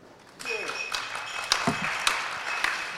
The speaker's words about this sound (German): Erstmal ein kleiner Applaus, bitte.